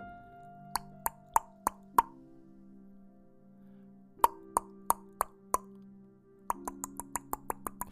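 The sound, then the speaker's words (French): A woodpecker pecking on a tree to feed: three bursts of sharp, hollow knocks, the last one quicker, each tap with a brief woody ring over a soft low hum. “C'est un pivert qui frappe sur un arbre pour manger.”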